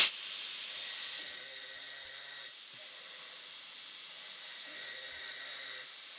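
Harsh, raspy human snoring with a hissing, almost mechanical quality. Two drawn-out snores rise and fall about four seconds apart, heard alone with no talking.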